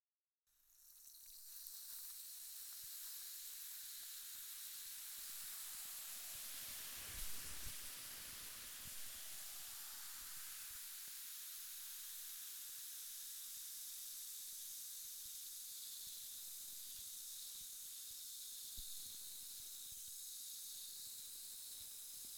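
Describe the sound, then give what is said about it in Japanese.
A steady, continuous spray hiss runs for the whole stretch, bright and airy, with a brief louder burst partway through and no voices. “シュワシュワ。もう一回行くよ。そのまま動かないでね。”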